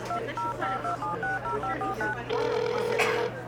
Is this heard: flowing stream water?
no